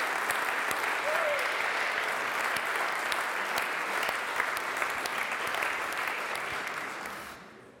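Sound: audience applause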